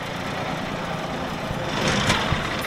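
A tractor engine runs steadily, a continuous low rumbling drone that swells slightly toward the end, with no voices over it, as a tractor drives along Rua dos Pescadores in the early morning in Salvaterra de Magos.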